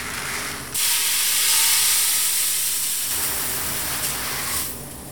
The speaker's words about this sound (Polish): To, co nam szumi obuczy, jest piec i w tym momencie głównie nam szumi taca chłodząca.